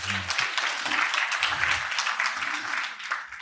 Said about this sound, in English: He has received the Dard Award twice in 2000 and 2001. I think he deserves a round of applause for that.